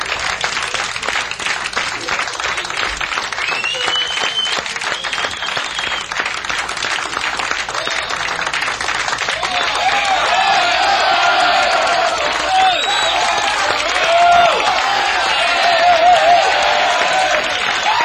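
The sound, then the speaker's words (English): A crowd at a live music performance applauds steadily with dense, continuous clapping as the host urges them to make more noise, joined midway by whoops and high-pitched cheers that swell louder toward the end. “Let's make some more noise.”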